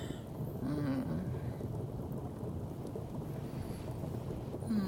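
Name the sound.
rain falling outside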